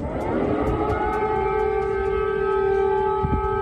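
Air raid sirens wail in Kyiv, Ukraine, on a day of Russian attacks, in a steady, sustained tone, their pitch sliding upward early and then holding level over a constant low rumble, loud throughout with no voices.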